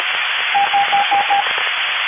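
A faint Morse code signal beeps through radio static: five short, evenly spaced tones in a steady rhythm, half-buried in the constant hiss of a band-limited receiver.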